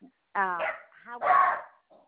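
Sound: small dog barking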